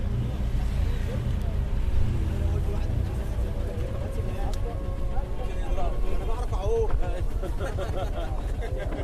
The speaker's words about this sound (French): Pour s'y rendre, il faut prendre une barque à moteur et traverser le Nil.